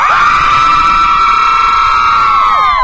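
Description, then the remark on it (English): A group of voices cheers and screams together in one sustained, high-pitched burst for the United Red Storm softball team in Warren County, loud throughout and fading slightly at the end, with no speech. “Let's hear it for them.”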